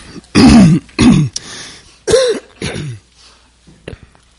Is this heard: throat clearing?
yes